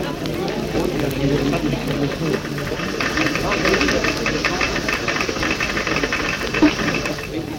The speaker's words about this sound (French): Dans une vaste salle toute bruissante du cliquetis des machines à clavier, les linotypistes composent ligne à ligne le journal.